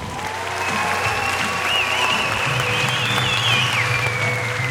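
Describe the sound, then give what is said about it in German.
A large audience claps steadily after a film, a dense, sustained wash of applause holding at a fairly loud level for the whole stretch, with faint whistles or cheers rising above it. “Bis auf den Applaus, glaube ich, nach dem Film.”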